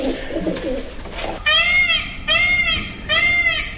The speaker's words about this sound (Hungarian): Páva? Így van.